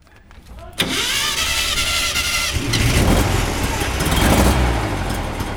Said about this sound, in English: The rattle, hum, and sputter of a VW Kombi engine is a common and sometimes deafening sound on the streets of Brazil, with the vehicle being used for everything from transporting mail to selling hot dogs out of the sliding side door